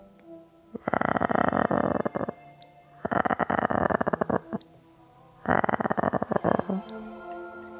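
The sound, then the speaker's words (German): A cat named Wilma purrs loudly in three long, steady bursts of rapid buzzing rumble, each lasting over a second, separated by short quiet pauses. “Die Katze Wilma, die schnurrt nämlich ganz doll.”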